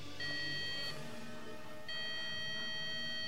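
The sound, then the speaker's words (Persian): An electronic ringing tone of an outgoing mobile phone call plays twice, each burst a bright warbling tone lasting under a second with a pause between, heard clearly over faint low background rumble. “میدونم، دارم با موبایلم بهش زنگ میزنم که باهاش حرف بزنیم.”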